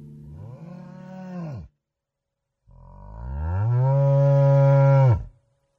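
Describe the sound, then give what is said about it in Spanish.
Two long, deep moos from a herd of 50 fat steers entering the Alto slaughterhouse in Lent of 1838, after 15 days of rain: a shorter call, a pause, then a louder, drawn-out bellow that swells and breaks off abruptly. No voices. “en la cuaresma de 1838, y luego de 15 días de lluvias, una tropa de 50 novillos gordos entró al matadero del Alto.”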